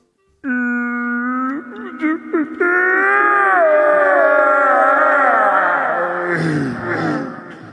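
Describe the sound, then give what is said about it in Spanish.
A person vocally imitates a bear's howl, starting with a steady harmonic tone, then a long, loud, wavering wail that bends and fades near the end. “Wow, sos un oso.”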